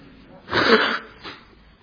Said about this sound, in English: I'm just going to blow my nose first. This is learning patience while I blow my nose, okay?